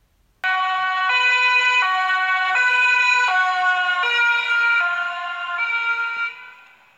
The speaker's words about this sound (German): Die Wellen hinter dem Krankenwagen werden langgezogen, bekommen dadurch eine tiefere Frequenz und hören sich dunkler an. Deshalb hört ein Außenbetrachter die Töne zuerst höher und danach tiefer.